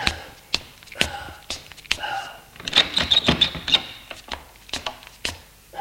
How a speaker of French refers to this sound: Arrive au sous-sol, il ouvre la porte de la cave.